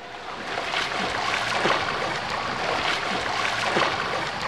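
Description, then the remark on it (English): Steady watery splashing and sloshing in a swimming pool, with a few stronger splashes breaking through a continuous wash of water noise; no one speaks. “You're in the swimming pool.”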